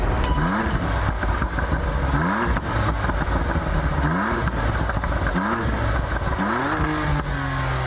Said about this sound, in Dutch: Het geluid van de BMW M2 CS.